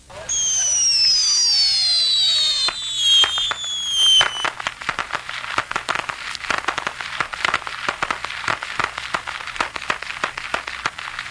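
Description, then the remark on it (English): Several shrill whistles sweep downward as bottle rockets, lit by firemen to open a fireworks event, launch, followed by a dense, sustained barrage of sharp pops and crackles that keeps going to the end. No voices. “KHNS's Bob Schwalbach and the firemen had trouble igniting the fuses on some bottle rockets they hoped would open the event.”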